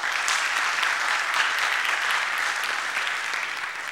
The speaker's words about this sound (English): Some applause, please